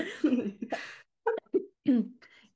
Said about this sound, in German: Oh Gott, sorry, ich habe immer noch diesen Husten, den verschleppe ich, nein, ich verschleppe es nicht. Ich kann euch jetzt genau erklären, was für ein Schleim da irgendwo noch sitzt, aber nein, ich tue es nicht.